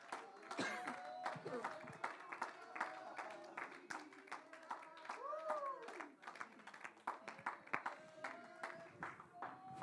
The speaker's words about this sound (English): Clap your hands unto the Lord today.